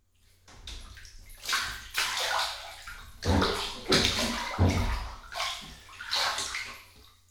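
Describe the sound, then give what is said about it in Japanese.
Water sloshes and splashes in a bathtub as a middle-aged man climbs into the bath, several broad surging swells of moderate loudness rolling and settling in waves over several seconds, with no talking. “せっかくお風呂に来てシャワーだけってのももったいないでしょ？ほらほらおじさん、先入って。”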